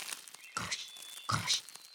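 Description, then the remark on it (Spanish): A voice mimics rustling leaves with two short, breathy, crackling bursts a moment apart, moderately loud, with a thin high whistle-like tone lingering faintly behind. “Como las hojas que suenan.”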